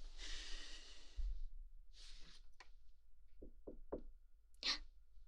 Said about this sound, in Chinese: 有人敲门，应该是主人，我去开。